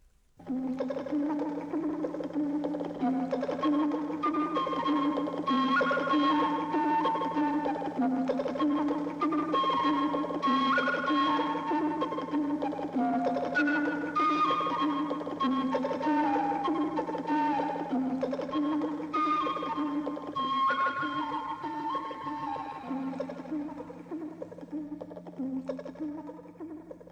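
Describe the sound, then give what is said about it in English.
A vintage electronic advertising jingle for instant tea, written in 1962: bright, bubbly synthetic tones bouncing in a steady repeating pattern over a low drone, playing loud and continuous before fading out at the end. “a jingle for an ad for instant tea written in 1962.”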